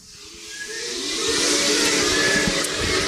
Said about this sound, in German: Das Labor zieht und zischt.